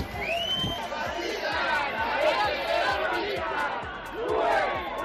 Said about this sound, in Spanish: Y esto que vamos a escuchar es la manifestación a favor de los presos etarras en San Sebastián.